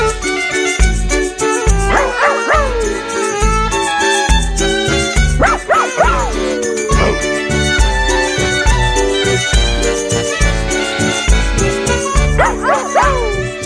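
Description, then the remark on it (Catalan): An 8-year-old basset hound named Aber barks and bays in a few drawn-out, falling calls against a steady, dense musical background, with no speech. “És un gos. Que és una Basset Hound de 8 anys”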